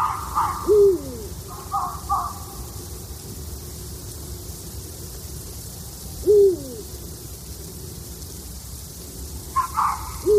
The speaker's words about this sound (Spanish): Bueno, aquí escuchábamos dos cosas. Escuchábamos unos ladridos de un zorro, esa especie como de grito que también se oye aquí, y escuchábamos también en búho real.